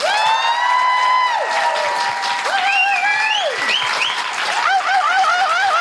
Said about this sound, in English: A huge... round of applause and thank you for the incredible Fern Brady.